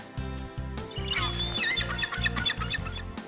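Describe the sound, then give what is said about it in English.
Several shrill seagull calls, squawking in quick bursts over a steady pulsing low rhythmic beat that runs throughout, fairly loud. “I know, a seagull. A seagull. That's right, Bonnie.”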